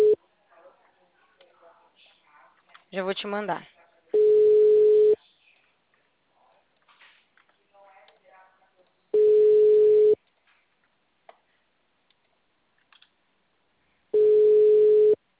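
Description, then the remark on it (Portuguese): A steady single-pitched telephone busy signal sounds three times, each burst about a second long and loud, separated by long gaps, after a short stretch of someone talking and a brief warbling tone; the number called does not ring but is busy. “O telefone número nem está chamou. ocupado.”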